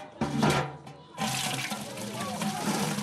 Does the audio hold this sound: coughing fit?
no